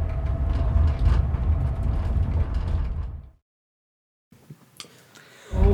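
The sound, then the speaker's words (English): A train rumbles steadily along the rails for a few seconds with a low, heavy clatter, then cuts out abruptly; after a pause come faint clanks and a loud low thud at the end. “We're on a train.”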